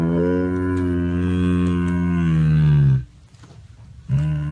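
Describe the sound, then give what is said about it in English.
A cat lets out a deep, drawn-out, cow-like moo lasting about three seconds, loud, followed by a brief quiet pause before another call begins. “mooing is always a hilarious indicator that the cat means business.”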